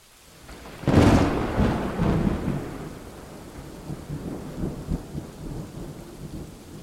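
A loud crack of thunder breaks out near the start and rumbles off, followed by steady rain pattering with scattered heavier drops. No voices are heard.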